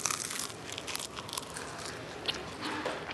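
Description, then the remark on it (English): Steady crunching as someone bites and chews crispy canned fried frog, with crackly snaps repeating over about three seconds and no talking. “It's good. It's a little crunchy.”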